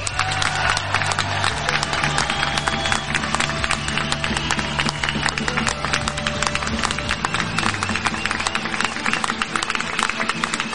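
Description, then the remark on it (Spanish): A large crowd breaks into sustained applause for public healthcare during Madrid's San Isidro festivities: dense clapping with cheers and shouts running steadily for about ten seconds, loud, with no speech over it. “Por cierto, aprovecho para pedir un aplauso para la sanidad pública.”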